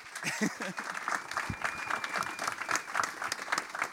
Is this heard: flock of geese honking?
no